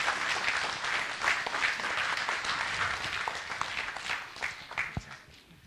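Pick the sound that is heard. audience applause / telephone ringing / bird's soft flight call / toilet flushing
audience applause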